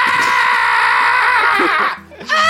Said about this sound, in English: He was screaming at the bugs now and not the daggers yet.